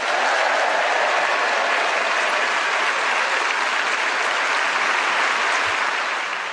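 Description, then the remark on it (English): A crowd applauds steadily, a dense wash of many hands clapping at a constant loud level for several seconds without any voices, a final round of applause for the week's game winner, Clement Freud. “But now a final round of applause to our winner this week, Clement Freud.”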